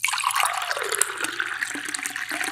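rushing water sound effect

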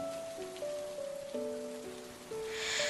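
rain falling

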